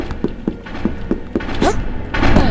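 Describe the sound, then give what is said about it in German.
In a video game, a run of soft, evenly spaced thuds leads into a short creaking sweep of a door moving, followed by a louder, rougher burst of noise at the end. “Oh, hört ihr, was ich höre? Eine Tür.”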